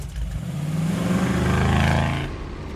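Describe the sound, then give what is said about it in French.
A car engine turns over and revs up, its pitch climbing steadily as it accelerates, loud, then easing off near the end. No voices are present. “Je veux dire, t'as qu'à monter si tu veux. Dans ma voiture, je te ramène. Installe-toi.”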